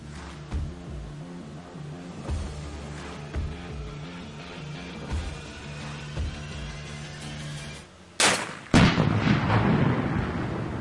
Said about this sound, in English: Now, in case you're wondering what that explosion is, she stole this whole shtick from who? Come on, we know. From Joe Manchin.